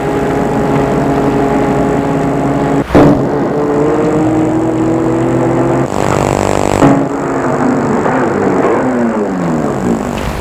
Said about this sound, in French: Une voiture arrive d'une route transversale. Elle arrive jusqu'à lui.